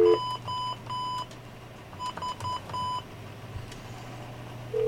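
A quick series of touch-tone dialing beeps, two bursts of short tones with a pause between them, over a steady low hum, with a dial tone sounding at the start and end.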